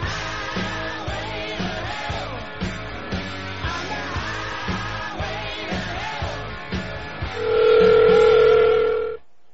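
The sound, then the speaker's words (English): Rhythmic, busy tones lead into a loud, steady telephone ring tone lasting about two seconds near the end, as a prank call is dialed and then rings through. No one speaks. “Prank call coming up, thank you.”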